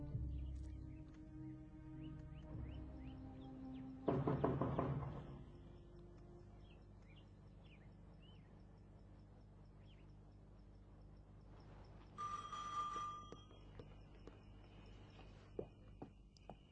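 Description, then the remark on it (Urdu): A short burst of knocking at a front door rings out against a steady backdrop of crickets and birdsong, then a second, quieter round of knocks follows several seconds later. “رکو بیٹی, رکو, میں خود ہی جا کر کے دروازہ کھولتا ہوں.”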